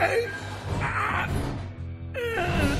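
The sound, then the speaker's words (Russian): A man lets out drawn-out moans of pain after a crash, heard in a morgue by the autopsy room, rising and falling in a few strained, wavering swells over about three seconds, fairly loud with no speech. “Я уже прошел половину вестибюля к комнате для вскрытий, когда услышал грохот и стон.”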